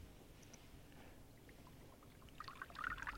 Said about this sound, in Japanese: ちょろちょろ言ってるよ。